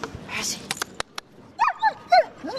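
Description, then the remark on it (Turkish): A guide dog named Percy, which lives in Cologne, gives several short, high whimpers and yips in quick succession, after a few sharp knocks and rustles at the start. “Eşi ve köpeğiyle birlikte Köln'de yaşayan”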